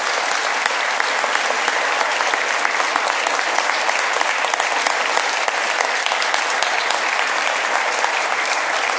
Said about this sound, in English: So everybody from Brookings, if you'd stand up. And then let's just give them a round of applause all together, if you would, please.